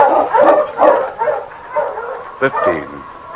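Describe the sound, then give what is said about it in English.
Husky sled dogs, including a husky named King, bark and yip in a loud, excited chorus of quick, overlapping bursts, with high-pitched yelps and one sharp bark cutting through near the end. “On, King! On, you husky!”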